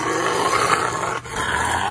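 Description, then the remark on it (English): A Rottweiler growls and grumbles in a low, continuous rumble for about two seconds while a man gives it a bath, briefly pausing before resuming, with a dense, slightly noisy background. “a guy giving his Rottweiler a bath.”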